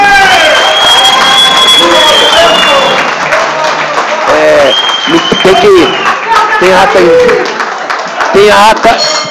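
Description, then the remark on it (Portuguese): Steady, loud applause from an audience at a session of the Ouro Preto municipal legislature, after the council's officers are introduced; dense clapping with scattered cheers and overlapping voices murmuring and calling out throughout. “Uma salva de palmas.”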